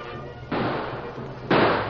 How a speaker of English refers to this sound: The Lone Ranger and Tonto were met by gunfire when they went on a friendly mission to the camp of Bill and Fred Vance.